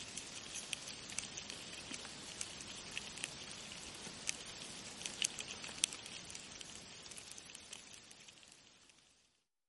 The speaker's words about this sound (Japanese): こちらはすでに葉を食べるのにも慣れたもので、刻まれていないままの葉でも上手に食べていく。幼虫が丈夫な顎で硬い桑の葉を食べるとき、雨音にも似たあの特徴的な音がするのだ。